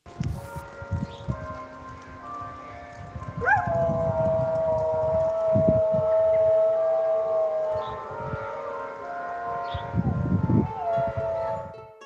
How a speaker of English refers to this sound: But first, when I was at Gillian O'Sullivan's farm yesterday, as the church bells rang out at noon, her dog Lacey decided to howl along.